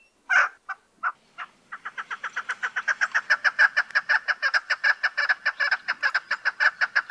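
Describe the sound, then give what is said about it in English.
A chukar partridge's rallying call: a few scattered clucks build into a fast, steady series of rhythmic chuck notes, loud, with no talking. “Their most common call is given by both sexes, and if you use your imagination, sounds like their name.”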